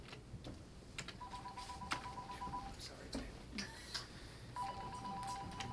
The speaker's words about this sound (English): That's an AT&T phone. He's got four bars here. Very good.